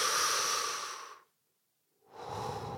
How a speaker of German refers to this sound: Okay. Wir lehnen uns zurück, wir atmen tief ein.